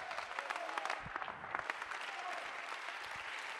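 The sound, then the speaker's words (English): An audience claps their hands unto the Lord, a dense, continuous wash of overlapping claps at a steady moderate level with a few sharper slaps standing out, and no one speaking. “You ought to clap your hands unto the Lord.”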